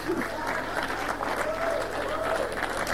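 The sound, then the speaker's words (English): A church audience claps steadily at the end of a sermon, a dense, continuous wash of applause at even loudness, with faint voices or cheers rising through it. “You better add and clap.”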